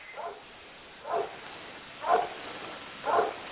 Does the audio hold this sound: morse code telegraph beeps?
no